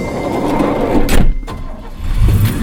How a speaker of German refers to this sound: Eine Stunde später rollte pünktlich ein Kleinbus der California Action Tour an und parkte direkt vor der Veranda.